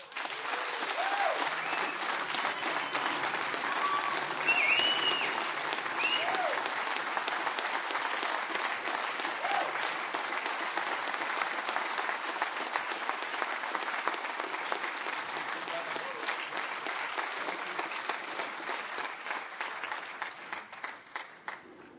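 An audience applauds a speaker after his talk, steadily for about twenty seconds, a dense wash of many hands clapping at even loudness that thins into more separate claps toward the end, with no one speaking.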